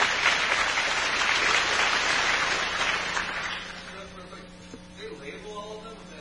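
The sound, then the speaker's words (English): A crowd claps steadily for about four seconds, a dense rattle of many hands applauding a man who named Peterson International as the maker of Everest picks, then the applause fades out and a few quiet voices and room noise remain. “Well, applaud for the man.”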